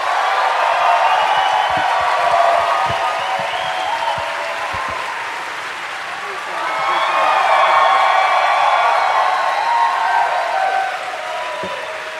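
A tavern crowd bursts into sustained applause and cheering, loud and dense, with whoops and shouts rising through it and a second swell of clapping midway before it starts to taper.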